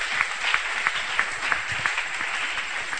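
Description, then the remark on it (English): A crowd clapping their hands in steady, dense applause, with many overlapping claps forming a bright, continuous patter at a moderate, even level throughout. “Oh, you want to clap those hands?”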